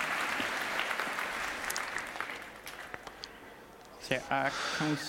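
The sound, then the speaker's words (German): A hall audience claps in a steady, dense burst of applause that slowly thins out, after a device with an installed mod chip switches on during a live demo, and a voice briefly speaks over the last second. “Ein Applaus aus dem Saal.”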